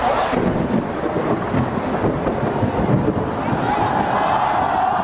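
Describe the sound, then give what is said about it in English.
A huge crowd of pro-democracy, student-led street protesters in Hong Kong fills the air with a dense, steady roar of blended voices, loud, with no single speaker standing out and no pauses throughout. “There is little that this huge crowd won't endure.”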